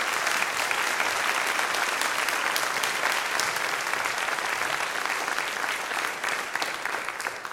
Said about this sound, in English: Let us give them all a round of applause.